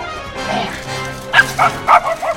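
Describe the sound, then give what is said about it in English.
Several short, high-pitched yips and barks from puppies racing through a stable come in a quick rhythmic burst, fairly loud, over a soft background murmur. “The puppies race through a stable.”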